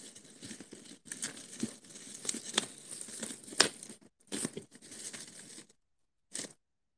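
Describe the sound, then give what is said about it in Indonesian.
Packing tape being pulled off a roll and torn in long, ripping strokes while a parcel is taped up with another layer, with crinkling plastic and a few sharp tears toward the end, fairly loud with no talking. “Oke, lakban lagi. Oke, terus ini dilakban lagi.”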